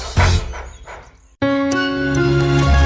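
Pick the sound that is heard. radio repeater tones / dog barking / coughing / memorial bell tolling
dog barking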